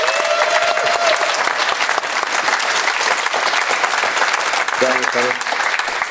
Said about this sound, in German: Wir freuen uns sehr, dass uns ein Spieler aus Leipzig zugeschaltet ist. Conny Leimer ist in Leipzig und wir begrüßen ihn mit einem herzlichen Applaus, würde ich sagen, hier aus München.